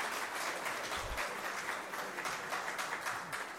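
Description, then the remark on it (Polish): Steady crowd applause welcoming the arriving parish priest, many hands clapping in a dense, continuous patter at even loudness throughout, with no voices standing out. “Brawa. Brawa. Brawa.”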